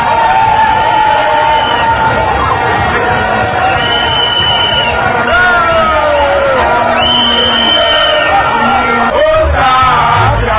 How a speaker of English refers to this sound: This was the sound made by the massive crowd that gathered at the Obra Sport at the Kwame Nkrumah Circle as early as 6 a.m. All clad in black and red attire, the crowd, comprising people from all walks of life, waited patiently amid music